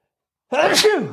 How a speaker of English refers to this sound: Woo! Oh, nice. I thought you were like muting yourself, but you just went full blown. Nah, I just sneezed.